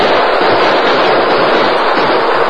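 A loud, sustained burst of gunfire, rapid shots crackling together into a dense, continuous barrage that fills the whole moment, with no voices. It is a final burst of gunfire from Indians as they flee over the prairie toward a wooded hill.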